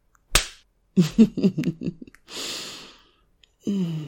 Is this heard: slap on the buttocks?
yes